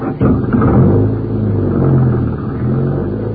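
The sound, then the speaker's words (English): A car engine kicks in abruptly as the car is started and keeps running loud, a steady low rumble with a rising, shifting hum as the car revs and drives off down the road. “Yeah, and there's the car. Start her up and go down the road away.”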